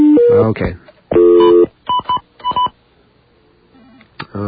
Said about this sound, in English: So let's get some dialing numbers there.